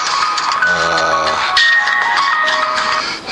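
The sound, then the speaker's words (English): A mobile phone rings with a bright electronic melody, a string of steady tones stepping between pitches, fairly loud and sounding alone for a few seconds. “Oops, I forgot to kill my phone.”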